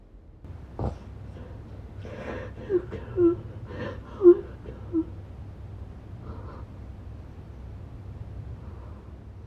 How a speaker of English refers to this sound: Don't worry, that whimpering sound wasn't a ghost. It was me having a nightmare.